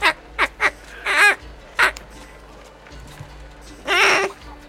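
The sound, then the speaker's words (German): A duck quacks loudly: a quick run of short quacks, then a longer raspy call, a pause, and one more drawn-out quack, with no voices. “Du ziehst es raus und du siehst, dass du eine Ente rausgezogen hast, die du im Hals gepackt hast.”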